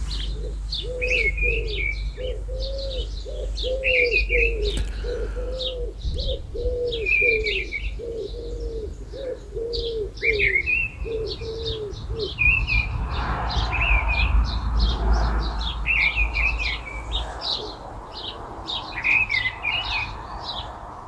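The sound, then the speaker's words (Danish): Outdoor birdsong in Givskud: a bird repeats short, low fluting phrases in a steady rhythm for about twelve seconds, while higher, quick chirps keep sounding throughout over faint background noise. “hvilken fuglestemme det er, vi hører på den vedhæftede video”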